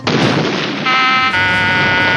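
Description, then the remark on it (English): A loud explosion erupts into a sustained rumbling roar. Partway through, a steady high-pitched ringing tone, like an alarm, rises over the continuing rumble. “I did, but he said there might be an explosion.”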